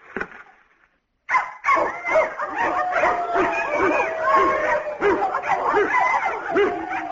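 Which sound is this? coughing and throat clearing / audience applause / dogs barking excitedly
dogs barking excitedly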